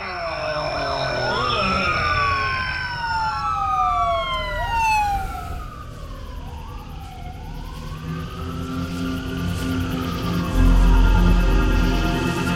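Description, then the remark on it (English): A wailing ambulance siren, approaching, sweeps up and down in repeated long glides, fairly loud, over a low rumble of passing traffic, with no one speaking. “I can hear the ambulance. It'll soon be here.”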